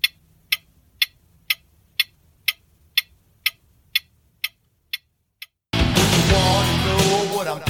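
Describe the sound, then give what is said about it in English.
A clock timer ticks steadily about twice a second, timing a round of a category word game, roughly eleven crisp ticks that grow slightly fainter, before loud music abruptly cuts in. “Clock starts now.”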